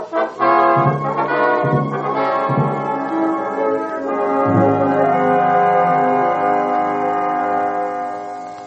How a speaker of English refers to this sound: What's the bell?